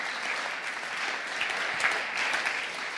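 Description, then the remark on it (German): An audience applauds God steadily, a dense wash of many hands clapping at an even loudness throughout, with no voices rising above it. “Und lass uns Gott für das einen Applaus geben.”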